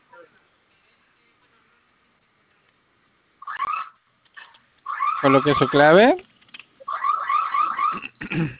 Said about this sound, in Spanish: Del lado izquierdo tiene un botón con el icono de fuego. ¿Sí lo observa? Vamos a presionar ese botoncito durante 5 segundos. Se va a activar su sirena y me ayuda a colocar su clave.